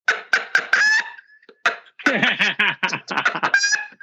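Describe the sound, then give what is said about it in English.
A voice imitates a rapid, rattling turkey gobble mixed with chicken-like clucks, loud, in quick bursts of several choppy calls with a brief pause in the middle. “Is this dude's over here making freaking chicken and damn turkey gobbles?”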